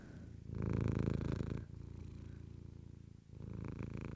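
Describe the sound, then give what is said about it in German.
A cat purrs in a steady, low rumbling rhythm as its belly is rubbed, swelling louder in long breaths and easing between them, with no talking over it. “Es ist okay, er muss alle nicht schnurren.”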